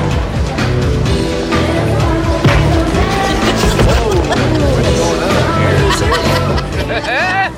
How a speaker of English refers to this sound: I had to leave the crowd noise, too.